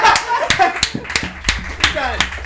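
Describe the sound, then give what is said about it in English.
A live crowd gives applause to a Reddit guest as she leaves the stage, clapping in a steady, sparse rhythm of sharp hand claps, with voices and cheering layered over the applause, moderately loud. “All right, Reddit applause.”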